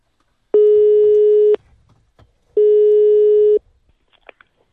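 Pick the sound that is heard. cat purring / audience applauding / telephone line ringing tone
telephone line ringing tone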